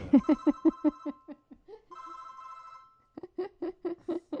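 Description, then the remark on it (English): A mobile phone left switched on during a live radio show rings with a fast, pulsing electronic ringtone: a rapid run of repeated beeps, a short steady tone, then the quick bursts start up again, with no one talking. “And David's forgot to turn off his phone.”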